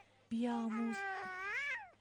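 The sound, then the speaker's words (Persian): A child cries out in one loud, drawn-out wail lasting over a second, its pitch rising and then falling away at the end, the crying echoing through a whole hall, with no talking over it. “الان صدای گریش بلند شد، از اون موقع بازی میکرد.”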